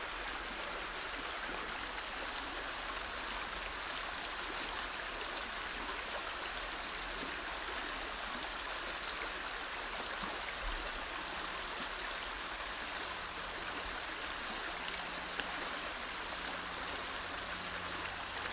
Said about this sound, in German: Und erlaub dir jetzt mal die kommenden tiefen Ein- und Aus-Atemzüge, dich mit diesem wundervollen Klang, diesem wundervollen Geräusch des Wasserlaufes zu verbinden.